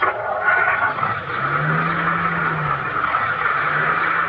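car driving off

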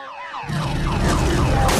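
car alarm going off

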